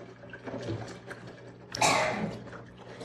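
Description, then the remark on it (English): A brief splashing gush of water being poured into a container, moderately loud, rising suddenly then fading within about half a second over a low background hum. “We're going to pour our water in.”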